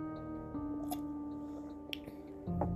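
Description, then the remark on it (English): Wet slurping of a drink, a few short squishy sips and mouth noises spaced across a couple of seconds over a low steady hum, with no talking. “Did you slurp that loud enough so that they hear our homey sounds?”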